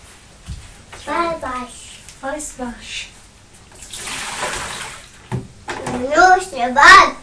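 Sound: water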